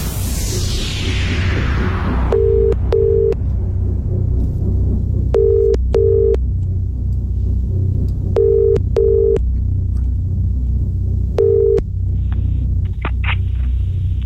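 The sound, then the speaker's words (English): An outgoing call's ringing tone repeats its double-burst pattern about every three seconds, four times, clear and steady over a constant low rumbling background, as a radio host phones the final winner of a concert ticket giveaway. “Now, I've got one number in front of me. This is our final winner. Hopefully, if they answer the phone, is it you?”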